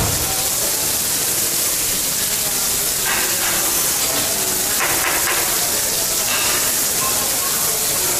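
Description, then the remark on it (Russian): Steady, loud sizzling of shrimp cooking on a hot grill, a continuous hiss with a few brief louder bursts partway through. “А сейчас в работу пошли креветки.”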